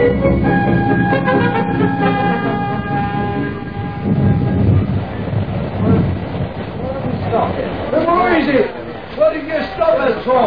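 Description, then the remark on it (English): An express train rumbles and clatters along as a steady horn tone sounds at the start, with voices talking over the noise toward the end. “This is the express, you know.”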